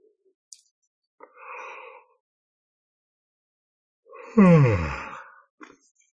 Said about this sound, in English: And when I yawn, it's not necessarily because I'm tired. It's energy moving. A yawn is one way of releasing heavy energy.